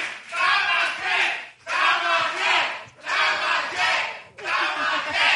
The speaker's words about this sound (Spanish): Muchas gracias por venir, Morelia. Un aplauso a la invitada de hoy.